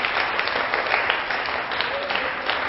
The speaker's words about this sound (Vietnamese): Các con có muốn mình thành công không? Nếu muốn thì cho một tràng vỗ tay thật là lớn nè.